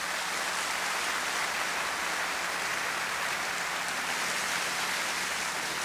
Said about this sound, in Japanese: ありがとうございました。都議団の皆さんを大きな拍手で送りたいと思います。